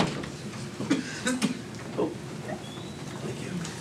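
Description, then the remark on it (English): A door is caught and eased shut by someone coming in, giving a few soft clunks and a muffled thud against a low background of room noise and faint murmuring voices. “can you catch that door for me as you come in?”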